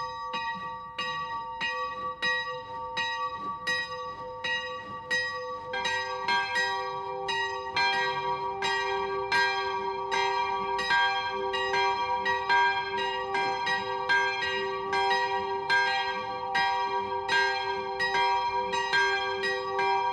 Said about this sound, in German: Es ist 12 Uhr. Das Mittagsläuten kommt heute von der Klosterkirche Kronach.